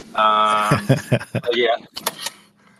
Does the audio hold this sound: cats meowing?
no